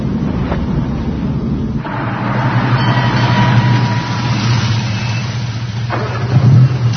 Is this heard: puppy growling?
no